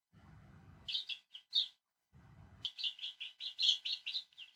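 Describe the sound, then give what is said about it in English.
A baby chick that has escaped chirps in shrill, high peeps: a few scattered calls, then a steady rapid run of them, with brief low rumbling noises before each burst. “Sorry, we had a baby chick escape.”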